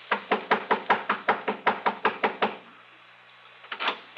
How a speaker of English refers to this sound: Within the hour, I was pounding on the front door